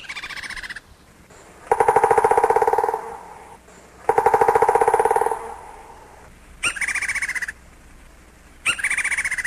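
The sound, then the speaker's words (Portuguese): Woodpecker calls ring out loud: a few long, harsh, rattling bursts alternate with shorter, sharp cries, separated by brief pauses, with no voices present. “Os pica-paus possuem algumas adaptações interessantes.”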